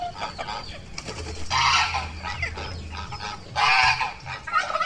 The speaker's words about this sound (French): On va continuer la visite de l'exploitation. On va aller voir les oies en élevage.